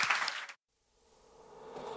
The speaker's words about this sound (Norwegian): Vi gjerne for å ønske alle sammen en god sommer, og en stor applaus til kveldens gjest, hoggorm, fotograf og leder for Norsk Herpetologisk Forening,